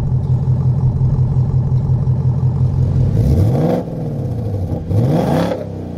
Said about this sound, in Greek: Όταν ακούς αυτόν τον V8 να γουργουρίζει, όχι να γουργουρίζει, να βρυχάται. Γιατί έχεις και τα επίπεδα που αλλάζεις όσο θέλεις. Πότε γουργουρίζει, πότε βρυχάται, πότε είναι σιωπηλός, ανάλογα τι θες να κάνεις.